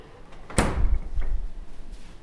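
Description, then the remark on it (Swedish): A refrigerator door pulls open with one sharp, bright thump, followed by a softer knock and a faint rattle, as someone goes to the fridge to look while baking buns. No one speaks. “Så går vi till kylskåpet och tittar.”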